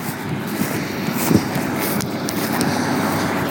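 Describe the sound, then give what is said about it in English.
A green John Deere tractor pulling a red Massey machine comes alongside to make hay bales in sunny South Wiltshire, its engine rumbling steadily and low, loudness holding fairly even throughout, mixed with broad hissing wind noise and a few faint crunching sounds, with no talking. “And here's a tractor coming alongside me to make bales of hay.”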